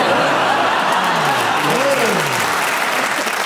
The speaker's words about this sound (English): The audience applause tells me you deserve a bonus point